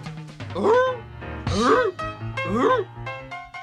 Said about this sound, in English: She looked in our direction and barked. It was a half bark, half bay that's common among your foxhounds, your bloodhounds, your bassets, and your beagles.